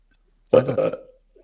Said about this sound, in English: You want to hear? Sure. Why? Give us a belch.